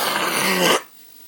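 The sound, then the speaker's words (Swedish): A single harsh, raspy throat clearing by someone with an allergic reaction lasts under a second, loud and gravelly with a low rumbling undertone, then cuts off into near silence. No one speaks. “Jag måste, här emellan så måste jag harkla mig.”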